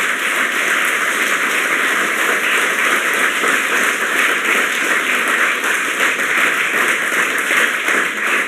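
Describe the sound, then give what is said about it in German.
A crowd at the GPN applauds the volunteer helpers steadily for several seconds, a dense, even wash of many hands clapping at once with no voices over it. “Ich finde, das ist überhaupt mal alles einen großen Applaus wert.”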